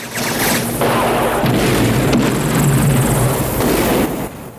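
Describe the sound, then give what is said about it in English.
In a Rambo film scene, a missile takes out a gun turret with a loud, roaring explosion. It gives way to crackling bursts of gunfire as Russian and Viet soldiers fire from the ground at a circling helicopter, all over a dense wall of noise and a steady low droning hum, with no voices. “Rambo takes out a gun turret with a missile. Russians and Viet soldiers return fire from the ground as Rambo circles the camp in the chopper.”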